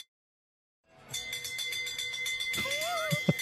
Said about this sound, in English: Somebody was starting to ring the bell and then they stopped. Short bells?